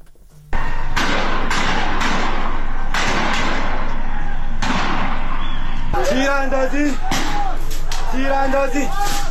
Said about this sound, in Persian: تیراندازی دارن تیر میزنن 23 اردیبهشت 1401 بروجر شهرستان بروجر دارن تیر میزنن.